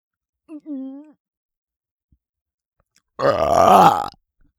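A long, loud, rumbling burp, lasting nearly a second, preceded by a brief soft vocal sound and quiet pauses; the burp is let out onto someone to wake them up.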